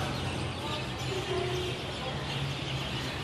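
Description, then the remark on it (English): A dense, continuous chorus of many birds calling at once at dusk in Kolkata, India, a steady wash of chirps and cries with a low ambient hum beneath, with no single call standing out. “She was stunned by how loud the birds were as dusk fell.”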